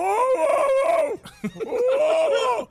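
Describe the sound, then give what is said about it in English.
Two drawn-out, strained cries in the woods, each about a second long with a short gap between them, men imitating a dog's howling bark. Loud, with no other talking. “They sound more like men imitating dogs.”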